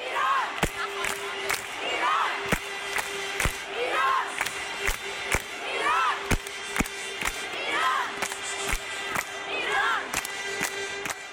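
A large crowd of Iranian fans chants and cheers for Iran at a match, women in the women's section joining cheers led by male cheerleaders across the stands, voices rising and falling, punctuated by sharp rhythmic claps or beats roughly twice a second, with a steady horn-like drone underneath.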